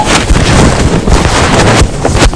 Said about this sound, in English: It's a funny noise, isn't that? No, it's in the bird. We know what it was. What was it? Aeroplane. Aeroplane.